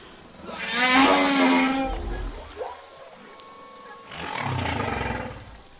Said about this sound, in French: et qui créent en fait le leitmotiv d'un chant qui dure entre 10 et 15-20 minutes. Et la baleine va répéter ça en boucle pendant une heure, deux heures, une journée, enfin, comme elle le sent, quoi.